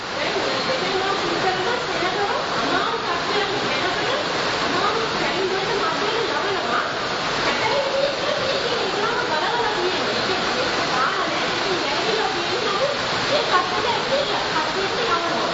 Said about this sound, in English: I think today God gave us background music because we have, even right now outside, there's a raging storm going outside, huge rain, right?